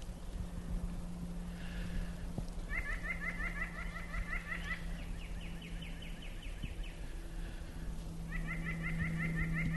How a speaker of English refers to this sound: This really isn't a very good place for Canada geese. Or I don't think it is. They know what they're doing. I shouldn't say that. They know what's best for them.